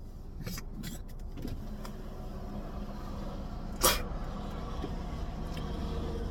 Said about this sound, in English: It's a big ass fucking truck right here, yo. Shit's fucking huge over here and shit.